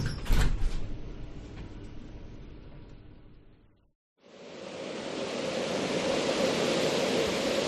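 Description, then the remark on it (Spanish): A heavy door slides shut with a long rumbling scrape that fades to a moment of silence, then a steady rushing, wind-like noise rises and holds. No one speaks. “¡Ay, que nos pilla la puerta!”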